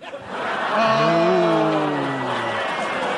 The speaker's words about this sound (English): Oh. That's a lovely reaction. That's a boo, then a laugh. Then a little clap.